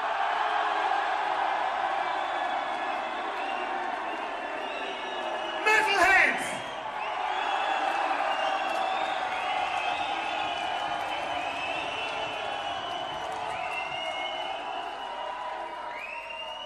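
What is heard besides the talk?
crowd screaming and cheering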